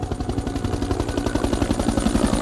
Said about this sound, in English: The noise of the chopper was going like this, like a muffled sound. And then it went to a high pitch.